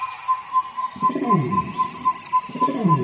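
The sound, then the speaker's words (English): A jungle soundscape: a steady high buzz of cicadas and a pulsing tone run throughout, while twice a deep, swooping orangutan call rises and falls. Faint bird chirps, including a blue-headed hummingbird, appear, with no talking. “I don't know if you can hear it, but there's an orangutan, cicadas, and even a blue-headed hummingbird.”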